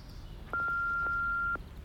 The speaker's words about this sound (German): Bitte sagen Sie Ihre Telefonnummer nach dem Pieps. Wir rufen Sie dann gern zurück.